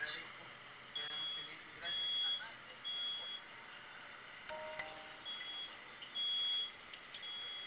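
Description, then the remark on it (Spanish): A high-pitched electronic alarm, activated again, beeps repeatedly in evenly spaced pulses, fairly loud, over a steady background hum with faint noise. “Ya se activó otra vez la alarma.”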